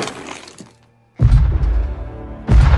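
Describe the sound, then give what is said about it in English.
A log is rammed from outside against a back door, which buckles, in two heavy, booming blows with deep low-end rumble, the first after a brief lull that follows a stretch of crackling, splintering noise. “The back door is buckling. Steve looks outside and sees Logan ramming it with a log.”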